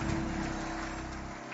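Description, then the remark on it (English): A steady wash of church crowd applause for the First Lady of Covenant Nation, many hands clapping at once into a dense, even crackle that holds at a fairly loud level throughout, with a low hum underneath. “Clap your hands, please, for First Lady.”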